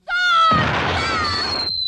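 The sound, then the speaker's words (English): A loud, high-pitched scream of a cartoon wolf being shot with an artillery cannon in a North Korean stop-action animated children's TV show rings out, then a booming cannon blast bursts in beneath it, the wailing continuing over the rumbling noise for over a second before cutting off. “The screams of a dastardly wolf. Shot with an artillery cannon.”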